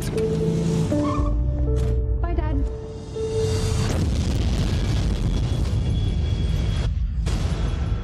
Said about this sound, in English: An explosion rocks the city today.